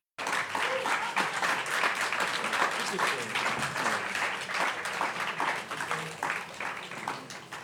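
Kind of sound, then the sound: crowd, warm applause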